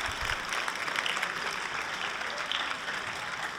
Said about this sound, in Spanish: Vamos a saludarlo con un aplauso.